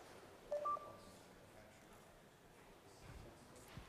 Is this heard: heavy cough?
no